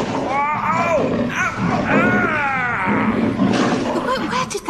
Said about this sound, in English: A tiger? Rah! Rah!